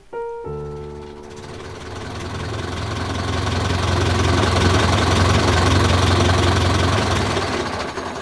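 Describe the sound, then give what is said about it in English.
A tractor engine, driven in a field in March 1953 by Monsieur Minet's grandson, turns over and catches, then runs steadily with a loud, deep rumbling chug and rattling clatter, with no voices. “As for the fateful shell dropped by Oddie, that remains in the field until uncovered by a tractor driven by Monsieur Minet's grandson in March 1953.”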